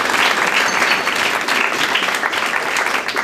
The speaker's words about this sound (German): Applaus